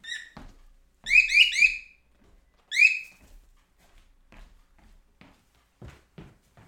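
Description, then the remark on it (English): A pet bird perched on a person's hand lets out loud, shrill whistling calls: a brief one at the start, a rapid burst of three linked notes, then a single call, with quiet handling noises between. “But I thought you'd like to listen to the bird.”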